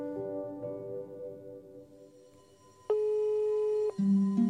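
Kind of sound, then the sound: signal or alarm, video call ringing tone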